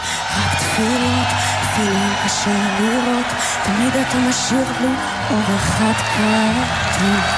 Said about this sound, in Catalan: Crits de Palestina lliure i una esbroncada general